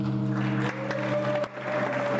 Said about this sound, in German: Kurzer Beifall, dann wird wieder andächtig gelauscht.